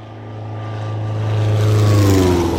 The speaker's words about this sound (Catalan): És un dia plujós, amb una d'aquelles tempestes d'estiu. A pocs quilòmetres de la secta, i sobrevola una avioneta.